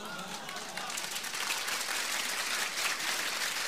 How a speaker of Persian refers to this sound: ببینم چجوری تشویق میکنی.